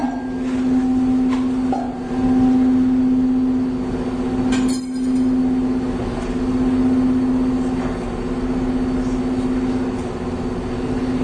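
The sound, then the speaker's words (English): A steady low electronic tone hums continuously, its loudness slowly swelling and fading in a regular wobble as two nearly matched pitches beat against each other. No one speaks. “I can produce two waves that should differ by a slight amount in frequency. Now I want to do them simultaneously.”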